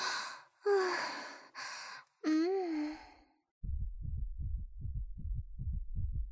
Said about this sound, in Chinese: 哎呀，我的心跳怎么越来越快了？